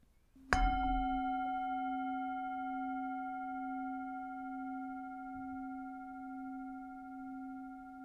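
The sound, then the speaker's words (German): A singing bowl is struck once to begin a meditation, giving a sharp onset and then a long, pure ringing tone with steady overtones that hums on with little decay, no voices present. “Ich beginne die Meditation wie immer mit dem Gong der Klangschale und hole dich dann auch wieder mit dem Gong zurück.”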